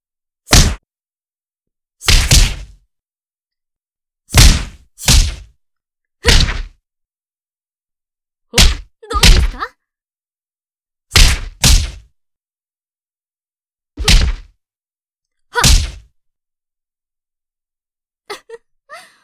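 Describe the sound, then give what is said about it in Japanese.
A series of about a dozen loud punches thud and smack in quick pairs with short pauses between as a fighter moves left and right, landing repeated blows on an opponent, ending with a couple of faint ticks; no one speaks. “この左右の動きで相手を翻弄し、パンチを浴びせ続ける。”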